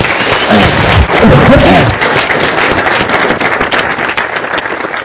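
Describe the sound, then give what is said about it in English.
A crowd at a company event claps for its leadership steadily for about five seconds, a dense wash of many hands with a few voices or cheers rising briefly near the start before the clapping carries on evenly. “So folks, let's give the leadership a hand, folks.”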